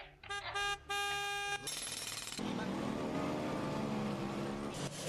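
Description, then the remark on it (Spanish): Busy street traffic in a capital city, loud: several car horns honk in short bursts at the start, then engines rumble and roar in a steady dense din with a faint murmur of voices. “la sobreexposición al ruido que afecta cada día a muchísimas personas, por ejemplo, los vecinos de la capital, como los de cualquier otra gran ciudad, soportan en muchas ocasiones el insoportable ruido del tráfico, las obras.”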